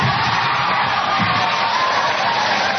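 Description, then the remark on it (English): A large crowd in Vancouver, watching via satellite, roars with loud, sustained cheering at the announcement that Vancouver will host the 2010 Winter Olympics, a dense wall of yells and whoops that holds steady without pause for the whole stretch. “A crowd in Vancouver watching the announcement via satellite burst into loud cheers at the news.”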